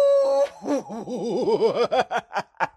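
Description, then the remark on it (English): A person imitates a wolf howl: a steady held note that slides into a wobbling, warbling wail, then breaks into a few short choppy bursts. “By the way, did you like my howl? That was a very signature howl.”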